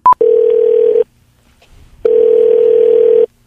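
An outgoing phone call to a car dealership rings: a short high beep, then two long, steady, buzzy tones, each just under a second, separated by a pause of about a second. No one speaks.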